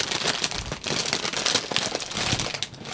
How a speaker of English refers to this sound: we're going to open the Trader Joe's Ghosts and Bats crispy potato snacks. So I think these are just potato chips and little fun shapes.